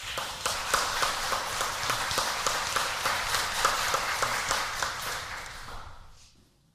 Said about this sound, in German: Ich danke euch ganz herzlich Und ich bitte darum, dass wir dem Team eben einen kräftigen Applaus spenden.